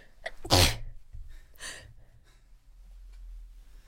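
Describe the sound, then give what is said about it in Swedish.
A quick run of three loud sneezes from a person sneezing out stage smoke, the first the sharpest and the next following about a second later, with soft breathing and low rumbling noise in between. “Om ni undrar vad det var som lät så var det tre stycken nysningar tror jag.”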